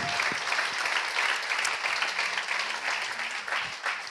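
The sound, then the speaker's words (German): An audience applauds steadily for about four seconds for a couple married 52 years, a dense, even wash of many hands clapping at a fairly loud level with no voices standing out. “Ein Applaus, 52 Jahre.”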